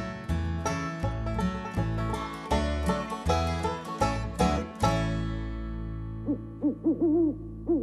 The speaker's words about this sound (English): Who are you? That's how an owl says howdy-do.